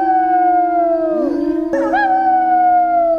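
Several wolves howl together in a loud, sustained chorus, their long overlapping tones gliding and wavering in pitch throughout, with no talking.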